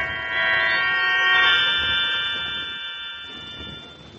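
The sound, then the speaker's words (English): A harsh electric doorbell buzzer, rung at the door of a bungalow converted into a duplex, sounds in one sustained, steady tone for a few seconds, loud, then fades out with no voices around it. “I rang the doorbell.”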